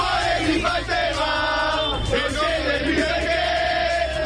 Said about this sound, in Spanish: Esto es de madrugada y hay movilización de la afición del Nápoles horas muchas antes del partido